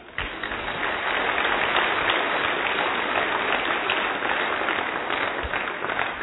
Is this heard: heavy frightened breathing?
no